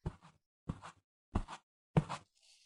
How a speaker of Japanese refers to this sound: なんか今、足音しなかった？もしかして、見張りの先生とか。